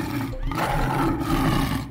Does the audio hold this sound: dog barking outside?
no